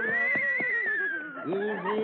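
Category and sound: animal, horse whinnying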